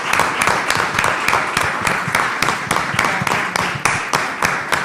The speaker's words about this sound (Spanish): Yo creo que merece un aplauso.